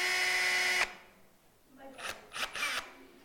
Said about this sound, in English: All right, so I have a couple of illustrations here. This here is a drill.